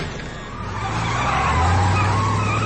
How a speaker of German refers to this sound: Ein schwarzer amerikanischer Sportwagen Marke Camaro brettert vom Fabrikgelände und rast die Straße runter.